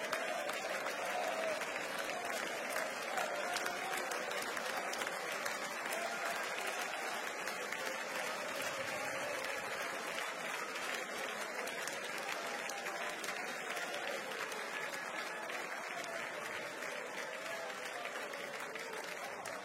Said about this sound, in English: I love it when we clap our hands. I really do.